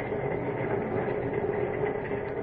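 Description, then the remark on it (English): A steady, continuous rumble of a moving train, heard from inside a drawing-room compartment aboard; a dense low-frequency roar with a faint hum running through it, constant in loudness with no voices. “Lois is alone in a drawing room on the train”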